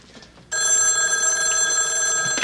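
telephone ringing

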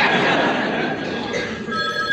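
telephone bell ringing

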